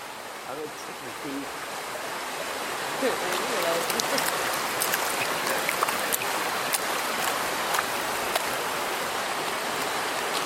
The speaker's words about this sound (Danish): Lyden af en bæk uden for Avery, lige før Oseberg